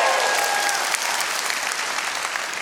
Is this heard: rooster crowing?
no